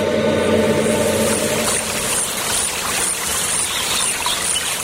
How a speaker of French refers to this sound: C'est peut-être la rivière qui coule à Auteuil-Outouillé, ça? Ça pourrait, à peu près le même bruit.